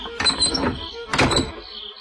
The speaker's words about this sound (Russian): Она подошла на цыпочках к сараю и для спокойствия задвинула засов на двери.